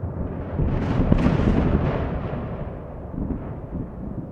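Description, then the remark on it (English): A loud crack of thunder during a lightning storm in Langon, France, at 11:20 p.m. swells within the first second into a deep, rolling crash, then rumbles on heavily and slowly fades over several seconds. No voices are heard. “And the sudden crashing jolts send all sorts of adrenaline through my body.”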